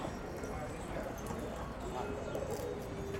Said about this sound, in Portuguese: Pombos brincam.